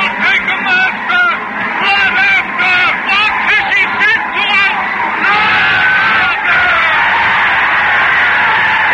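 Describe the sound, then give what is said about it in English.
A crowd shouting in a square: many voices yell and wail at once in a loud, continuous roar, with cries rising and falling over one another throughout. “The whole square is whirling and turning and shouting.”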